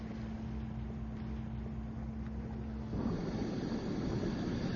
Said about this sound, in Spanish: El mar alrededor de Roca Partida es muy agitado para que el Solmar ancle ahí. Así que bajan una lancha inflable para transportar al diverso grupo de buzos hacia la roca.